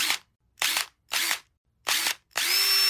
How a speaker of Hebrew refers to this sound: האימפקט זה קצת אחרת. היא פועלת רגיל, מבריגה ברגים להנעתה, ואז אם פתאום היא נתקלת בהתנגדות, אם פתאום ההברגה נהיית לה קשה, יש לה מנגנון של פטיש פנימי שמתחיל לפעול, ובמקום לעשות סיבובים רציפים, היא מבריגה את הדברים במכות סיבוביות קצרות עם הרבה יותר כוח.